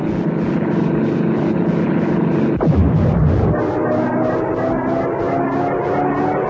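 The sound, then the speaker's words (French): A loud, steady propeller drone from a World War I (1914–18) biplane engine in a Winx video game with cannon combat, bombing and convoy escort, with a pulsing buzz that abruptly swoops down in pitch midway, then settles into a lower, throbbing hum. “Te projeter en pleine guerre de 14-18 aux commandes d'un biplan.”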